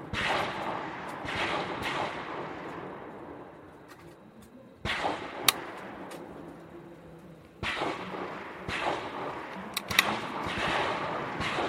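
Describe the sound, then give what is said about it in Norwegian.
Rifles being loaded at a shooting range for a third series of five kneeling shots: overlapping metallic clicks, clacks and rattles from several shooters, coming in busy bursts with a few sharper snaps, reverberant, with no talking. “Lading.”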